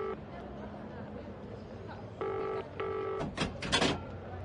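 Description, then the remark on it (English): A telephone number is dialed: a phone line sounds two steady electronic tone bursts in quick succession, followed by a flurry of sharp clicks and button beeps, over a low background hum. “But when it got to 2:00, I thought I'd better call her.”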